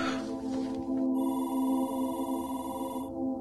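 A classroom telephone rings with a steady, buzzing bell tone that holds for a few seconds, brightening partway through, fairly loud, with no one talking, in a Freddie Freeman E60 documentary.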